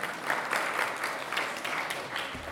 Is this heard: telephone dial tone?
no